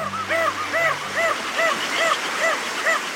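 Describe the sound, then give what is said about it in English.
Crested auklets, small seabirds that nest on remote cliffs in the northern Pacific and Bering Sea, give repeated barking, honk-like calls at a colony in a steady rhythm, about seven in three seconds, over a dense, noisy chorus of other birds. “Crested auklets are small seabirds that nest on remote cliffs in the northern Pacific and the Bering Sea.”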